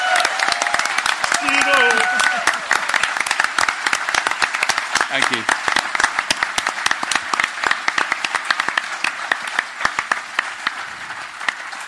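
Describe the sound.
An audience breaks into sustained applause, a dense crackle of many hands clapping steadily for about twelve seconds, with a man briefly speaking over it near the start.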